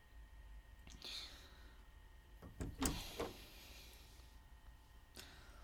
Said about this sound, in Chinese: 我给他开门。